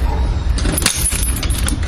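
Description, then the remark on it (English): Keys jangle as a key is taken out at mailbox number 580, a quick flurry of bright metallic clinks and rattles lasting under two seconds, over a steady low rumble. “I can just get my key, our boxes.”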